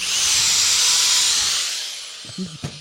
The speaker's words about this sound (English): Your drill's not even a battery drill? No, it's an electric drill. Have you heard of electricity?